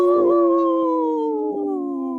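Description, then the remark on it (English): A person on the Native Roots Radio show imitates a wolf howl, holding one long, steady, slowly falling note for about two seconds, loud, with no other sounds around it. “I was gonna trying to howl and say no at the same time. You could do that in wolf language.”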